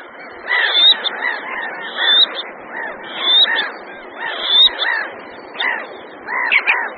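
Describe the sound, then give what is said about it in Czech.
Black-necked grebes calling, several birds overlapping in a busy chorus of squeaky, rising whistled notes, repeated in irregular bursts with no talking. “Početnost potápky černokrké se u nás v průběhu posledních dvou století silně změnila.”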